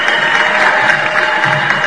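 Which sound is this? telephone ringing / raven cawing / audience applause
audience applause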